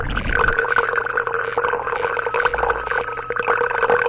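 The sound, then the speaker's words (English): Club soda from a bottle fizzes steadily as it is poured as a refill into a glass, a dense crackle of tiny bubble pops over a low, steady hum, lasting the whole few seconds with no voices. “Listen to that carbon dioxide-filled liquid.”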